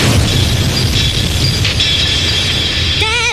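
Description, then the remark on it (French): Loud, continuous roaring and rumbling of an airplane crash explosion as another airplane flies straight into them, dense and unbroken throughout, with a wavering high-pitched tone rising up near the end. No one speaks. “j'ai jamais vu un avion entrer en contact de même!”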